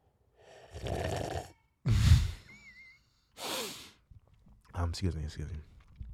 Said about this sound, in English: I'm sipping on a smoothie. This is a milkshake, really. A milkshake smoothie I made. It's got ice cream, got strawberry Häagen-Dazs ice cream. I put blueberries, I put bananas, and I put some milk. It's fucking delicious.